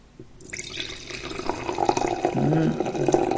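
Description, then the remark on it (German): Red wine, an Olivin Blauer Zweigelt from Winkler-Hermaden, gurgles steadily into a glass after a brief quiet start, the splashing pour fairly loud, with a hollow glugging bubble partway through as the glass fills. “Aber wie immer, zuerst stoße ich mal an und zwar heute mit mir selbst.”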